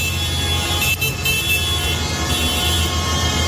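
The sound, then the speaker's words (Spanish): Tractor horns blare in a sustained, overlapping chorus over a deep, steady rumble of heavy tractor engines at a farmers' protest tractor convoy in central Madrid, Spain, a loud and continuous din of a crowded road with no one speaking. “Hoy han querido dejar claro con sus tractores y sus bocinas que el campo español puede morir con el acuerdo de la Unión Europea con Mercosur.”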